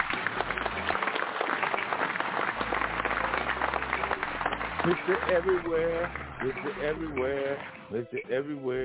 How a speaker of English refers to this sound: Hold on, let me get some claps for that.